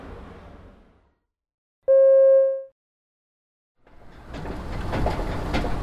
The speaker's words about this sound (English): This is amazing. What is it? It's an escalator. It's a machine which carries you upstairs and downstairs. How does it work? Well, an escalator is actually three simple machines.